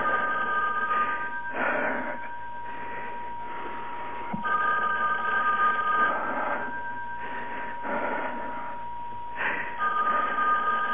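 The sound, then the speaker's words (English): A telephone bell rings in repeated bursts, several rings separated by short pauses, with a thin, slightly muffled tone over a low background hum and no one speaking. “Please answer the phone”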